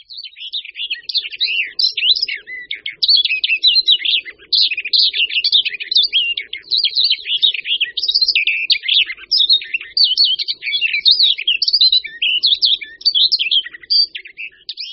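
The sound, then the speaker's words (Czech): A barred warbler sings a fast, scratchy warbling song that runs nonstop for the whole stretch, bright with dense chattering phrases and no other sounds. “Pouze krátkou dobu a jen místy u nás můžeme slyšet zpěv pěnice Vlašské.”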